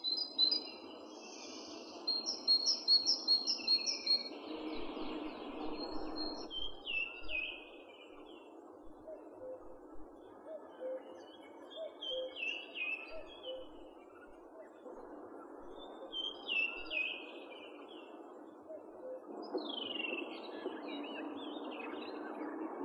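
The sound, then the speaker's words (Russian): A great tit sings in bouts of quick, repeated high two-note phrases, pausing between series, over a steady low background rush; no one speaks. “Это песня большой синицы.”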